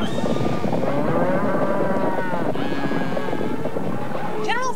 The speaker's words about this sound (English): Holy cow. General Fichol, a herd of cattle. Of course I heard of cattle. I'm a country boy.